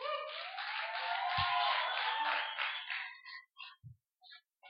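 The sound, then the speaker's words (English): A crowd claps together as a praise to God, in a steady, dense wash of applause for about three seconds, then it thins into a few scattered, isolated claps before fading out. “Clap our hands and God a praise.”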